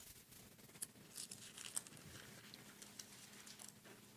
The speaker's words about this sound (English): Still hear the pages turning. You guys are doing a good job. By the end of the sermon, I usually hear a lot less pages. People get tired by then.